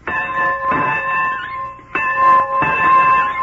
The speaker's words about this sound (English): In northern Alabama, rural Alabama, where the farm bell still calls the farmer from the fields